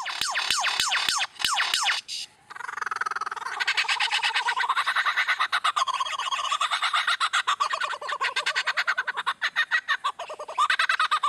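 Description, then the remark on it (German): A lyrebird mimicking sounds: a run of sharp clicking snaps, then a dense, fast stream of loud, varied chattering calls and whirring trills, with no talk. “Wenn in Australien plötzlich eine Motorsäge heult oder ein Feuerwehralarm losgeht und die Geräusche immer aus der gleichen Ecke kommen, könnte es sich durchaus um einen Leierschwanz handeln.”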